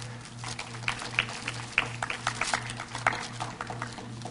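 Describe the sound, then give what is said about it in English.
A crowd claps its hands in a steady patter of many overlapping claps, moderately loud, with a low steady hum underneath and no one speaking. “once you get there, give these guys a hand clap.”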